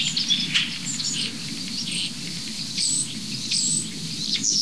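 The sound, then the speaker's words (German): Starlings and a robin sing together in a busy dawn-chorus tangle: high, bright whistles and chirps flick in and out over a steady low rumble, with no voices. “Da haben die Starre sich gerade eben bewegt, aber die drehen gerade völlig durch. Ich weiß nicht, ob man das Rotkehlchen noch gut raushört.”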